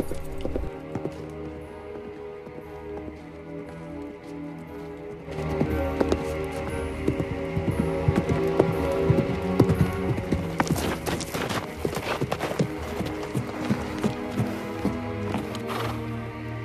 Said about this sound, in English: A figure on a white horse gallops through a forest towards the magician's house.